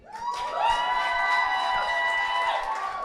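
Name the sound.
audience applauding and cheering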